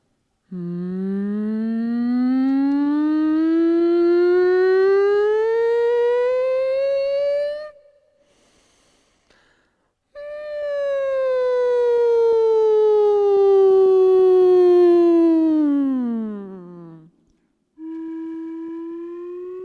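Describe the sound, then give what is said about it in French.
A voice imitates a siren or rocket, sliding slowly upward in one long tone, pausing, then gliding back down before a brief steady note. Loud, with no other sounds. “imitation de sirène ou de fusée”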